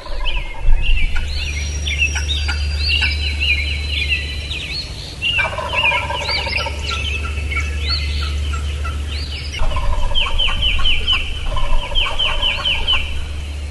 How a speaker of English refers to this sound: there's a hen turkey that lives there that calls just like that, so I'm going to call like her